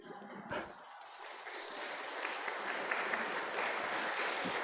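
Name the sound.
audience applause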